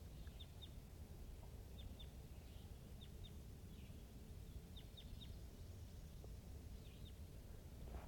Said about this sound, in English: This is a wild crossbill to the east of the net side up on the top of the hill calling from the distance.